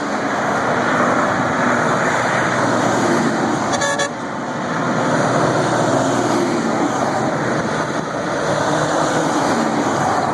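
A military convoy in Delaware rumbles past in a steady, loud roar of engines and road noise, broken once midway by a short, bright honk of a horn. No one speaks.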